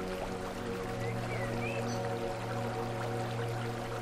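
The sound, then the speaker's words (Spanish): A soft, steady murmur of flowing water from a spring runs continuously from start to finish, low and distant, with no voices present. “Con inmensa dicha sintió a lo lejos un breve rumor de agua.”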